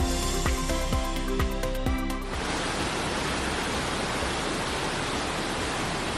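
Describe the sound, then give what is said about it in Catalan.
Floodwater rushes down the mountain of Montserrat after intense weekend rains that left 126 litres per square metre there on Sunday, in a dense, steady roar that continues unbroken for several seconds, following a brief rhythmic musical passage at the start. “Això que escoltem és l'aigua baixant per la muntanya de Montserrat, on es van acumular 126 litres per metre quadrat aquest diumenge.”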